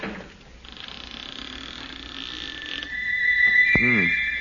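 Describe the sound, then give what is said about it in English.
A door swings open with a drawn-out, high-pitched creak from stiff, unoiled hinges, the squeal rising and wavering before ending in a short groaning sweep. “You'd better get a man to oil those hinges.”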